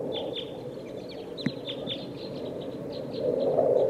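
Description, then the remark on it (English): A flock of type 2 birds calls from the top of a pine tree in quick, overlapping chips, a steady scatter of short high notes over a constant low rumble, with no voices. “There's a flock of type 2 birds here in the top of this pine tree.”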